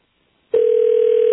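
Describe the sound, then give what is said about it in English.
After a moment of near silence, a loud, steady telephone tone switches on, a single unbroken mid-pitched hum that holds at even volume to the end, with no voices. “Sound like the ring shifted, perhaps.”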